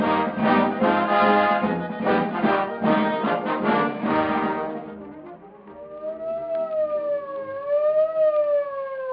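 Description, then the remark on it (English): An ambulance siren wails with a slow rise and fall, following a few seconds of loud, dense, pulsing blare. It is steady, with no voices. “Of an ambulance.”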